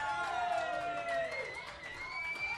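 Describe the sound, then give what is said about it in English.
A small crowd of fans at the View Bar at the D in downtown Las Vegas cheering and whooping together for a couple of seconds, steady, with a thin, scattered quality rather than a big roar. “I got to tell you, that was pretty pathetic. I said, what a great crowd here tonight.”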